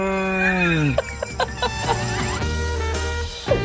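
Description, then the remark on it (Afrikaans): A cow lets out a low, drawn-out moo that slides downward in pitch, followed by a few shorter, choppier calls and soft knocking sounds. “Dit is regte koei.”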